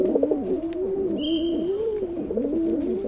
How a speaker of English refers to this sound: This could be any city park across the United States, through Mexico, and into South America. These are rock pigeons, ubiquitous city dwellers. These birds were introduced from Europe by early settlers, and they have thrived in their new home.